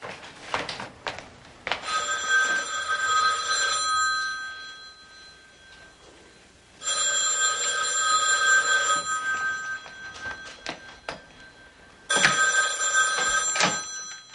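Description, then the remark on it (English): A telephone rings in three long, bright bursts separated by pauses, loud, with a few faint knocks and rustles in between and no one speaking. “Just let me call Barbara and see if she's home. Ah, the phone's back here.”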